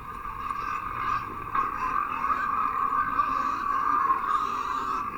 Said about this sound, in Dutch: Kijk, daar gaat de tractor.